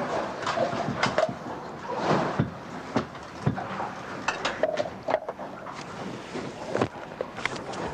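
Metal clinks and scrapes as canned stewed steak and canned potatoes are stirred together into a goulash in a pot on the gas aboard a boat at sea, with irregular sharp knocks over a steady, rushing background hum. No one speaks.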